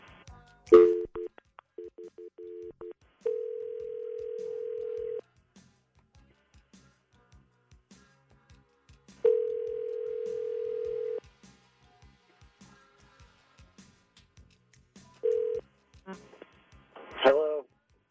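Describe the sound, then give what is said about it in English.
A telephone call being placed to a man rings on the line: a few quick tone bursts, then two long steady ring tones separated by a pause, heard thin and phone-filtered with a short clatter at the end. “We're going to call him up and offer him a dozen free roses.”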